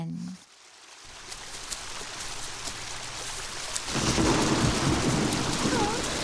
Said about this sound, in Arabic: يا أصدقائنا الحلوين، راحت النملة تتجول لوحدها في الغابة، وفجأة وهي تمشي بدأت السماء تمطر مطرا شديدا.